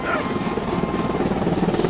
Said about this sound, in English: Oh, Alaska Day. The marching bands. The Coast Guard helicopter flyover.